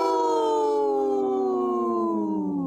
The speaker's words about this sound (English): My wolf sounded hurt. Oh. Hopefully not.